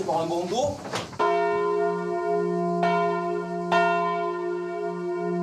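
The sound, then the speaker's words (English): A large church bell tolls three times, each loud strike leaving a long, humming resonance that rings on between blows, after a brief moment of someone speaking at the start. “They met striking dock workers, farmers, a bell ringer.”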